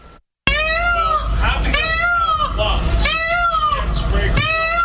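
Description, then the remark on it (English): Happy, a 50-year-old Asian elephant at the Bronx Zoo, calls in about four long, wavering, high-pitched squeals with rich harmonics, each rising and falling, over a steady low rumble, fairly loud throughout. “CBS played the sound that I conveyed to you that they said was Happy the Elephant.”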